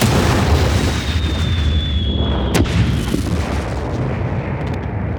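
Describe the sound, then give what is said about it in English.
A sci-fi spacecraft explosion sound effect: a descending whistle leads into a sharp crack and a deep, rumbling blast that roars on loudly, with a second smaller burst, no voices. “Spacecraft is destroyed.”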